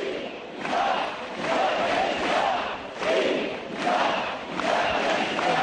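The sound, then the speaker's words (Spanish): More than 2,000 people gathered in the street chant pro-independence slogans in unison, rhythmic shouted phrases rising and falling in repeated waves of roughly two seconds, loud and sustained with a dense roar of many voices. “Más de 2.000 personas concentradas le han recibido con gritos a favor de la independencia.”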